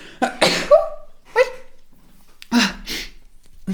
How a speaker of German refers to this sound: Oh, ich muss niesen.